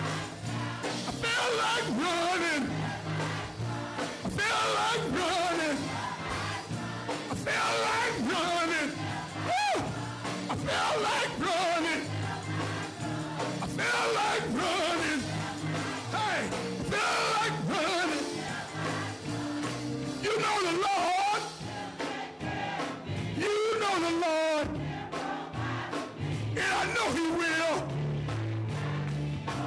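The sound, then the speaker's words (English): A large audience shouting and crying out together in worship, loud and sustained for the whole stretch, with many overlapping voices rising and falling in excited bursts. “I feel like praying, I feel like praying, I feel like shouting. I feel like shouting.”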